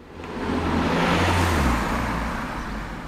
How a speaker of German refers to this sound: Es ist ruhig in der historischen Altstadt von Altstetten an diesem Vormittag. Hin und wieder passiert ein Auto die Hauptstraße.